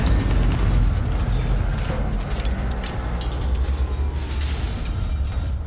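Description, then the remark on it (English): A heavy dray with whining drive turbines roars loudly, accelerating down a ramp and crashing through freight doors, a dense, continuous rumbling din with creaking and banging mixed in throughout, forceful with no voices. “It roars and accelerates at quite a frightening pace down the ramp and into the doors.”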